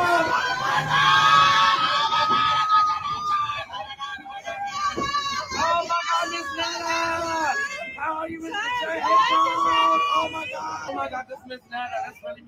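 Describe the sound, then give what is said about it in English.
A dense crowd of excited fans screams and shrieks outside a New York hotel as Miss Netta and Charles leave, high-pitched, overlapping voices asking for pictures, loud, with shouted talking mixed into the continuous clamor. “And allegedly, there was a large crowd of fans there screaming and asking them for pictures.”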